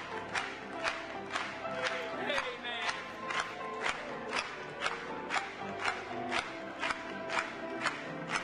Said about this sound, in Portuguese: Mais uma vez, vamos bater palmas.